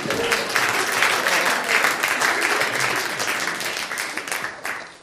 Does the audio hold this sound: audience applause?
yes